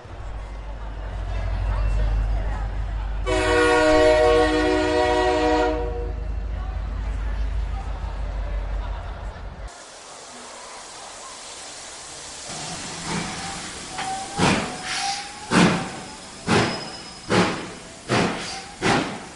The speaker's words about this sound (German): Darf ich um Ihre Aufmerksamkeit bitten? Der Hogwarts Express fährt nun vom Gleis 9 4 Drittel ab.